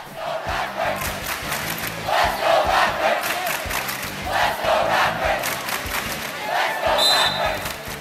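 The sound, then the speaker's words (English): A large high school student cheering section chants and cheers loudly on a game night in a steady rhythm, voices rising and falling in repeated bursts, with a brief high whistle-like tone near the end. “The entry process involves schools submitting a video on YouTube of their student cheering section on a game night,”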